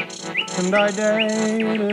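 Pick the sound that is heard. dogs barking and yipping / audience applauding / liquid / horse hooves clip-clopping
liquid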